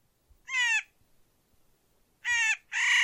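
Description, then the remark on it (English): Three harsh, grating Clark's nutcracker calls ring out loud: one drawn-out call, a pause, then two more in quick succession, with no other sounds around them. “I associate the strident calls of these birds with wind-swept peaks and gnarled old pines just below timberline.”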